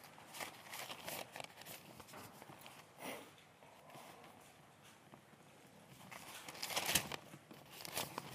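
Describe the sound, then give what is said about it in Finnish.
Thin Chinese paper pages of a Bible are turned and flipped, giving a series of crisp rustles and crinkles, louder toward the end, with no voices. “Voi kun mä tykkään tästä Raamattu kansalle -painoksesta, mutta tästä kiinalaisesta paperista mä en tykkää.”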